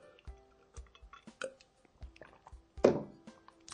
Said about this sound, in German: Ich trinke jetzt hier einen Schluck Wasser, ist auch ganz lecker.